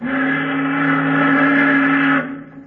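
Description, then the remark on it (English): The steam whistle of a tramp steamer, a freighter, blows one long, loud, steady blast for about two seconds, its harmonic tone cutting off abruptly and leaving a brief fading echo. “What's a tramp whistling for, Daddy?”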